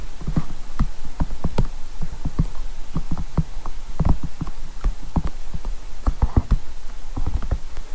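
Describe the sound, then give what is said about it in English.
Hollow knocks of a capsicum being tapped in a galloping clip-clop pattern, like horse hooves, in quick bursts of two and three strikes, fairly loud, with no talking. “that's almost using the capsicum as the sound effect on Monty Python the Holy Grail to gallop horses with”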